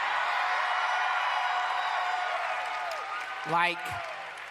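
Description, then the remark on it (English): A live audience cheers and applauds in a steady, dense wash of noise, with a single voice rising briefly above the crowd near the end. “You shouldn't cheer yet. You should wait for the end.”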